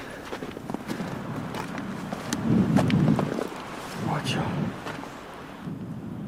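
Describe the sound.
Strong wind roars and buffets in low, rumbling gusts that swell around the middle, on a snowy ridge at the rim of the Tara Canyon during a hike, with a person briefly speaking over it and faint crunching steps.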